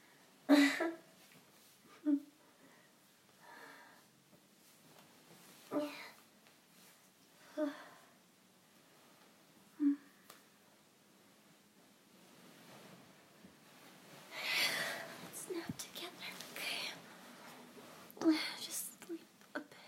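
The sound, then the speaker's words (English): Heavy, congested breathing through a blocked nose and a partly blocked throat, with slow breathy whooshes repeating every couple of seconds and a louder, rougher stretch of airy exhales near the end. No one speaks. “I'm sorry for breathing so heavily. Because my nose is blocked and my throat is a little blocked too.”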